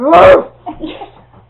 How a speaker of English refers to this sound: And the puppy says something there, and she sort of.